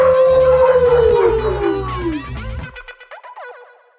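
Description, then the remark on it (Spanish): People imitate a dog's howl as their traditional farewell: one long, loud, drawn-out wail that slides steadily downward in pitch over music, then breaks off into a short glitchy electronic tail. “Entonces, nos despedimos con nuestro tradicional aullido.”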